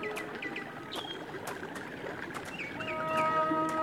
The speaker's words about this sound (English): There's still a lot of snow on the peaks, and the water in the streams is cold and fresh. Up ahead is a waterfall. Hear it?